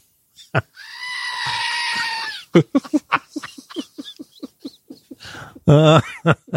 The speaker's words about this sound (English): Oh, screaming goat. Too fun. Screaming goat.